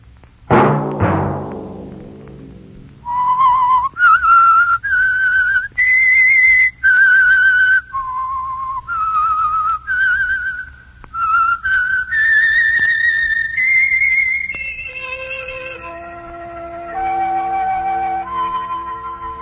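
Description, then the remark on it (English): A lone whistler carries the slow, eerie theme melody of the Signal Oil radio program The Whistler, aired each Sunday: sustained, clear notes rising and falling in a haunting tune. It is loud and begins after a brief sharp chord-like hit, with no talking. “Let that whistle be your signal each Sunday for the Signal Oil program, The Whistler.”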